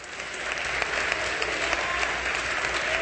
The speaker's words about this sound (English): I see dancing in the house of God. I see clapping.